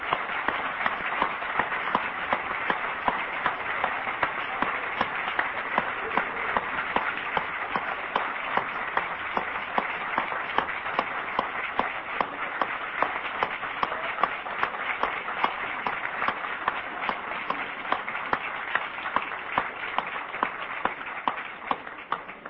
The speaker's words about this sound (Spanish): Y creo que una buena forma de terminar es con un aplauso. Un aplauso para Paco Espínola, ¿por qué no?